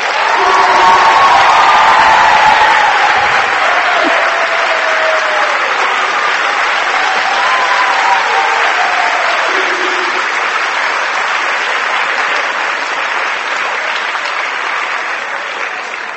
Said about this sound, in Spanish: ¿Y serían capaces de darle un aplauso a su párroco?